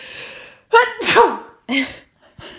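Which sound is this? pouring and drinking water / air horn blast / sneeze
sneeze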